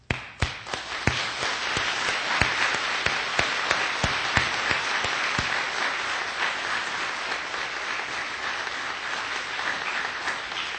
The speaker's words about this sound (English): this wouldn't happen without the support of the parents, and so make sure that whenever we applaud the boys that we applaud the parents as well, because it takes a lot of hard work from everybody.